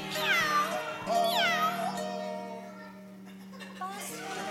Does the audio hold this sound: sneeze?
no